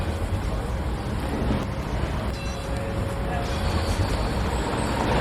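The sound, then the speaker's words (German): A steady, loud rumble of heavy traffic and large construction machinery at a scaffolded, giant residential block being renovated in the Telli quarter of Aarau, with a faint mechanical whine running through the dense, continuous roar. “Man hört darum während allen Aufnahmen von dieser Episode, hier wird geschafft, mit grossen Geräten und mit viel zusätzlichem Verkehr.”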